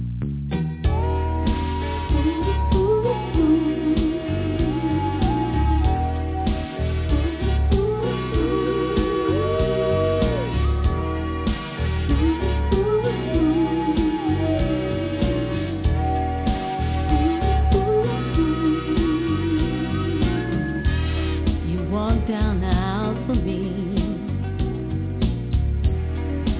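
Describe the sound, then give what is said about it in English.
A recorded cover of an early-1990s love song, like a wedding song, plays steadily throughout, a singing voice with wavering vibrato over full instrumental backing, the sound somewhat dull and muffled, as if from a low-fidelity recording. “I actually covered that song.”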